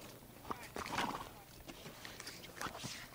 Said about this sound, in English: I'm surrounded by horses now.